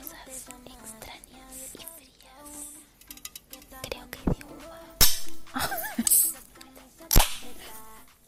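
A singer's TikTok ASMR video promoting a new song: soft murmuring and small crinkly noises, broken by three sudden sharp cracks like snapping pops that jump out loudly over the quiet texture.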